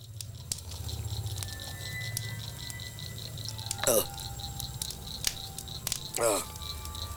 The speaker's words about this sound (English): flicks something off the inside of the cup and then drinks.